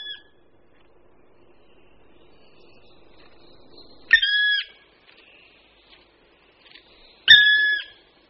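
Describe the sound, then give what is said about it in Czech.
A black woodpecker, climbing a tree, gives two loud, ringing calls a few seconds apart. Each is short and clear against a quiet, faintly hissing background with no other sounds. “Toto zvučné, melodické a daleko slyšitelné volání můžeme slyšet nejen v Boubínském pralese, ale i v pražské Královské oboře.”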